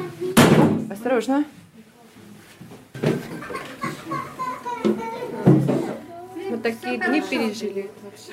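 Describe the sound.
A heavy trap door in the floor of a hotel bangs shut near the start as people climb down to the basement, followed by a couple of softer thuds, with children's voices and other people talking throughout.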